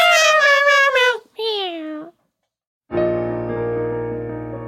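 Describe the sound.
Human voices mimic cats with a run of wavering, high-pitched meows, then a longer drawn-out meow, followed by a brief pause and a sustained musical tone.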